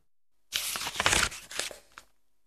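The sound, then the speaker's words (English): Thin tissue paper is torn by hand in one continuous pass lasting about a second and a half, a crisp ripping with crackly bursts and a few sharper snaps near the end, as shapes traced in chalk from a fish drawing are torn out for a craft. “Next, I put tissue paper over the drawing and traced the shapes. I used chalk to trace. Then I tore out all the shapes.”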